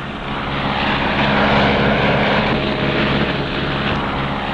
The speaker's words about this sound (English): The pilot is rolling the plane into a wing over.